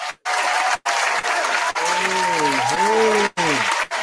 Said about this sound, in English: Y'all, give a nice round of applause for Miss Danny in the building.